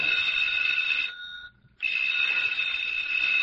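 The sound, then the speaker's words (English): A telephone rings with a steady, shrill, high-pitched tone, stops for a brief moment, then starts ringing again just as loudly. No one speaks over it. “I'll get it, Miss Bell. No. No, I'll answer it.”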